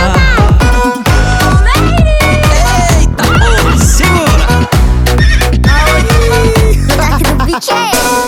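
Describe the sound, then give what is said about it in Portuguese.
A horse neigh sound effect rings out in a loud, bass-heavy dance track, its shaky whinny riding over thumping beats and dense music from start to finish. “Eita, eu vou fazer com ela aquilo que o cavalo faz.”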